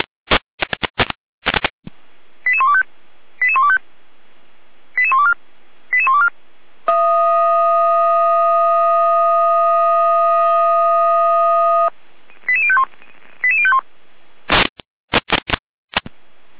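Fire brigade radio alerting tones from the Gera dispatch: sharp clicks open and close a run of short, chirping electronic tone bursts, then a steady, buzzy alarm tone holds for about five seconds before more bursts follow. No voices.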